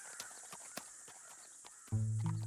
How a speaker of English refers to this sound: along a trail in the Canadian Rockies of British Columbia when his wife's horse stumbled and tripped on a rock, splitting it open in the process.